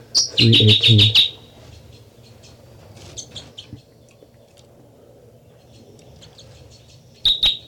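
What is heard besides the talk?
bird song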